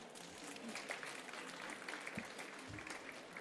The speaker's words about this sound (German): Ein Applaus